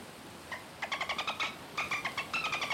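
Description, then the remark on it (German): Many seagulls in the air over a beach call in quick repeated bursts, a series of sharp, bright cries in two rapid runs, fairly clear against a soft background hiss with no one talking. “Und da sind ganz viele Möwen in der Luft.”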